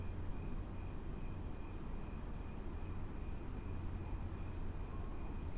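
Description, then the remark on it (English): A steady, low rumble of traffic at night, with a thin, constant trill of crickets running faintly above it, heard from a balcony full of flowers and lanterns amid strip malls. No one speaks. “In the background, you can hear traffic and crickets.”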